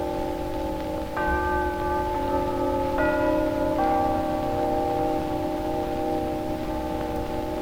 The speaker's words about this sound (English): During the last few seconds, and now, the chimes of Telecron, the modern electric timekeeper that operates from your lighting circuit, have been heralding the approach of the hour.